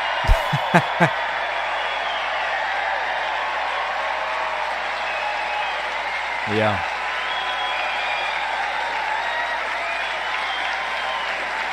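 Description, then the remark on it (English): A large crowd cheers and applauds steadily for about twelve seconds, a dense, loud wash of clapping and shouts, with a few sharp thumps at the start and a voice calling out briefly. “The crowd goes wild, but has absolutely no idea what's going on.”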